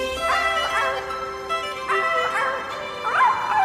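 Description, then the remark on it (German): A sea creature with the head of a dog and the hindquarters of a fish sings in three wavering, melodic howls with yipping, bark-like edges, fairly loud, with no talking. “Das Wesen ist gleich wieder abgetaucht, aber ich hörte noch, wie es ein wunderschönes Lied sang.”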